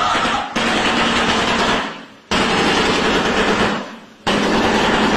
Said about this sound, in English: It is a terrifying shoebill bird, which is... It's extremely large bird, and it's got a huge beak, and it looks like it could literally eat you. So it's clacking its beak together.